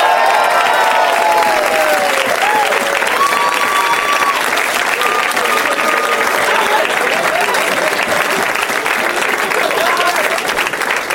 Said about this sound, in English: They're having so much fun backstage together. Or they're just trying to milk the applause.